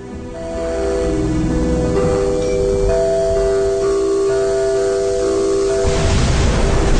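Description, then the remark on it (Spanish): Rain falls in a steady, continuous hiss as the weather turns cool, lasting the whole clip, with sustained tonal notes held over it and a rougher, louder wash of noise near the end. “Ya está lloviendo, ¿eh?”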